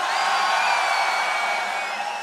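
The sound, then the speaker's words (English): A large festival crowd at Tomorrowland screams and cheers in one loud, sustained roar on the host's call, a dense wash of many high voices that holds steady and then eases off slightly. “All the old school of Tomorrowland, let me hear you scream!”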